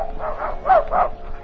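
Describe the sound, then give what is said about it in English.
A dog named Wolf barks four times in quick succession, short woofs in a steady rhythm, with no one speaking. “Wolf, heel.”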